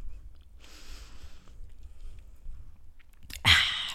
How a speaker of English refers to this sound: That's just the life of a vegan, you know, munching on carrots.